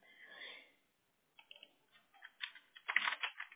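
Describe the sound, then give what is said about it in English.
Quiet computer-keyboard typing as an address and zip code are entered: a soft hiss, a brief pause, then irregular bursts of light key clicks that quicken and grow a little louder toward the end. “I just, when I start typing it in, it starts giving me these different suggestions, and I'm like, no, that's not it.”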